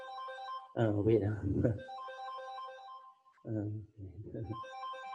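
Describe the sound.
A mobile phone ringtone for an incoming call plays a repeating melodic tune throughout, moderately loud, while a man's voice talks over it in two bursts.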